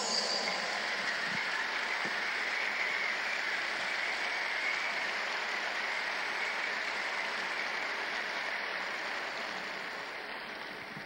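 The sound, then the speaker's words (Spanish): Sustained applause from a church audience, given as an offering of applause: a dense, steady wash of clapping that holds for about eleven seconds and eases off slightly at the end, with no voices over it. “Se merece una mejor ofrenda de aplausos.”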